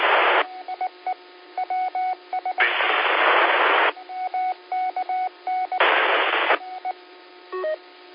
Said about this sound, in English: You must have moved off your X there, Bud, because you just went down into the white noise and then also dropped the repeater.